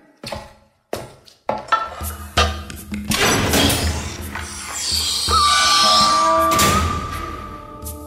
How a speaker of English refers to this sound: open the door, will ya?